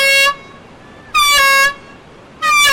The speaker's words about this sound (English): This is just a test, but about 50 times a year, this horn and an even louder siren signal an actual alarm. It means a great white shark is swimming toward shore.